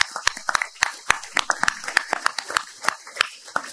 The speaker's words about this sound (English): Where's Pastor Hatch? He's here. Please give Pastor Hatch a huge round of applause.